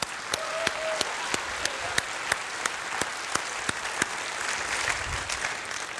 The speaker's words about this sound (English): So I think we should give ourselves a round of applause for having achieved that.